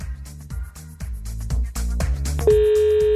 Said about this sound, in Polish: Dużo tych możliwości i proszę nie prowadzić właśnie teraz rozmowy telefonicznej, ponieważ uwaga, dzwonię.